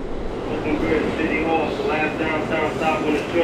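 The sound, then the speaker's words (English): A steady, loud rumble of a New York subway train rolling through a tunnel past the closed City Hall station, with a droning roar and faint high-pitched wheel whine, plus indistinct voices mixed into the noise. “We're the only people left on the train.”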